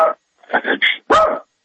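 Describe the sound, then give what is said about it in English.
A male Yorkie yaps four times in quick succession, short high-pitched barks that are fairly loud, with the last bark longer and more drawn out, and no talking. “It's a Yorkie, and he's driving me crazy.”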